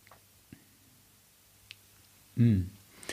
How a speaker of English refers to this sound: But have a wee taste, have a wee sip. Let it sit on your palate if you want for a few seconds. I like to kind of chew it a little bit and then just enjoy it.